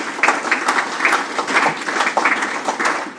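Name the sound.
audience applause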